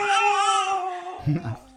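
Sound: baby crying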